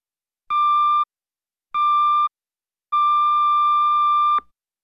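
Three loud electronic beeps at a steady pitch: two short ones about half a second each, then a much longer tone lasting about a second and a half, the classic answering-machine signal to start recording.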